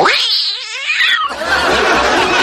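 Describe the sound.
A man imitates a demonic cat yowl at an animal imitation festival, the Festival de Imitaciones Edición Animales: a loud, wailing, wavering yowl for about a second, then a noisy, raspy burst.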